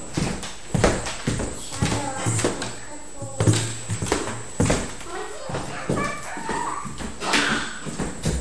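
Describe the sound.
A dog gives short barks and high whimpers while being played with, amid scuffling, thumping movement, with muffled human voices underneath throughout.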